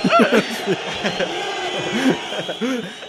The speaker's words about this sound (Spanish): Pongo un abucheo, ¿no?